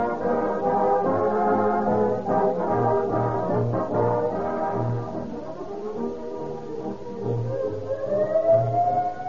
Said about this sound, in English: I hear that shrill siren of a police car, ambulance, or fire engine, I am reminded of Rio Grande cracked gasoline.